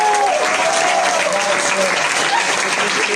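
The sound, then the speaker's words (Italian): An audience at an evening event of Radio Città Aperta applauds an artist steadily in a dense, even wash of clapping that stays loud throughout the few seconds, with a faint tonal sweep sliding beneath it early on. “Un applauso”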